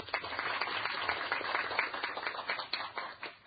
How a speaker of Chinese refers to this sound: 特别咧我哋要欢迎咧就卫生署嘅署长林炳恩医生嘅啊，俾啲掌声啊！